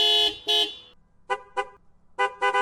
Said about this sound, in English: As he drives into the garage, everyone beeps and toots their horns.